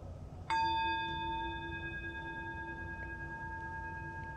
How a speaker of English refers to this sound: I'm going to make a noise with this gong here.